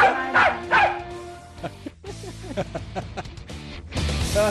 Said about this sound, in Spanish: ¿Cuál era el perro de verdad y cuál era el de mentira? El de verdad era el inicial. El primero. El perro de verdad ladró una sola vez.